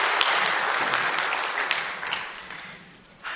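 A crowd claps steadily in a dense, sustained round of applause that fades slightly toward the end, with a brief burst near the close and no talking over it.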